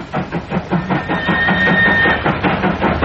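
The Paris passenger train arrives at a station, rumbling with rhythmic wheel clatter and a sustained high squeal of brakes, steady and fairly loud, with no voices present.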